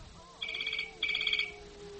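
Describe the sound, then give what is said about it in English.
A telephone rings in an office in two short, trilling bursts with a brief gap between them, a bright electronic warble over a faint background hum. “The phone ringing in the office.”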